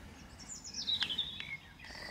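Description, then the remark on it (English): A small bird chirps outdoors while feeding on a spring morning, in a quick run of high, thin tweets that descend slightly, with a couple of sharp clicks, over quiet background ambience. No one is talking. “Bird's happy enough there, feeding away.”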